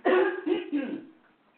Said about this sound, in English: Hold on a second. I'm going to have to cough this up. You know what? Just hold on just a second. I'm going to have some water. You want to listen to my coughing and drinking?